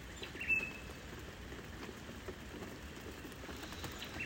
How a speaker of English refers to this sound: I hear the rain.